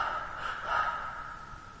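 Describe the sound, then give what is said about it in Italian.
A single deep, drawn-out gasping breath imitated by a voice, copying a dying man's final breath, breathy and rasping, swelling in the middle and slowly trailing off, with no talking. “La dottoressa era lì, lui ha fatto questo respiro e lei mi ha detto no, non si spaventi, adesso farà altri due respiri.”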